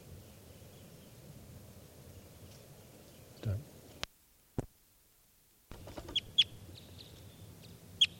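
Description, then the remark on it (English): A bird calls with a handful of short, high-pitched chirps in the last few seconds, heard over a steady low rumble and hiss that briefly drops out before the calls begin. “There's a bird.”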